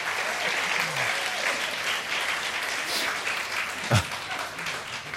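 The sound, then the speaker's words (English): A crowd bursts into sustained applause, a dense wash of many hands clapping steadily for several seconds, with one louder clap standing out near the end, given as a clap offering. “Can we just give a clap offering, right?”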